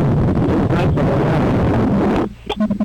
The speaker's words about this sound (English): Sounds a little windy out there. Yeah, it just picked up. It just picked up probably 15 minutes ago.